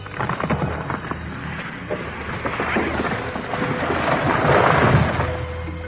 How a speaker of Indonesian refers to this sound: Bukan main terkejutnya Kalapati dan Sindupati ketika melihat sebuah pohon besar roboh ke arahnya.